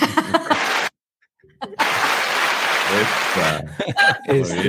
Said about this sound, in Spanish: Ahí voy a prender los aplausos otra vez. ¿Prende los aplausos? Sí. ¿Aplausos?